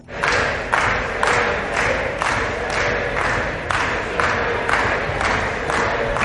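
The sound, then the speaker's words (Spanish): Deputies of Santiago Abascal's party clapping and shouting "que se besen" in a steady rhythmic chant at a final approval vote, loud, dense bursts repeating about twice per second over a continuous roar of voices. “Aplaudían y gritaban que se besen los diputados de la formación de Santiago Abascal.”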